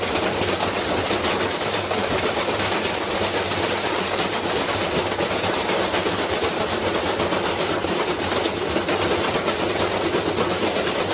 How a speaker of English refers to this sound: this is one object that was thrown into this $1,000 new dryer